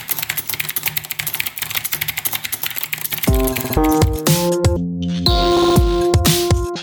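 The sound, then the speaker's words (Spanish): Rapid, steady clatter of keys being typed on a computer keyboard for about three seconds, then a loud burst of music with sustained tones takes over. “¿Cuántas palabras por minuto tecleas tú en este momento?”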